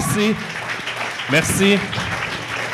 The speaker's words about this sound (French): Là, ça va avoir une belle main d'applaudissement là, parce que j'habite dans le quartier ici.